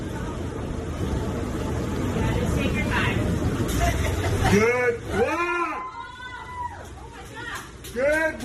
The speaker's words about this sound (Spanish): Bueno, así celebraban los pasajeros de un autobús en las calles de Nueva York cuando el agua llegaba hasta los asientos, que el conductor pudiera salir de un cruce a punto de ser llevado ya directamente por la corriente.